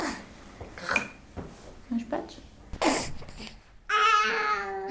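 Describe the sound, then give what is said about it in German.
A baby fusses while being offered a spoonful of beetroot baby food at a hospital in Erlangen, Germany: scattered grunts, whimpers and babbling noises, then a sustained, high whiny cry near the end. “Doch das Baby sträubt sich.”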